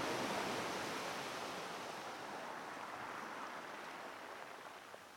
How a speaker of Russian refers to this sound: Подойди к морю. Оно бьется о берег, как огромное сердце. Слушайся в его ропот.